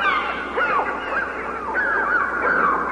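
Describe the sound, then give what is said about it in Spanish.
A flock of birds calling loudly and continuously, with harsh, honking cries overlapping one another throughout, with no voices present. “sí, la verdad es que pájaros, que va, y te ponen los pelos de punta.”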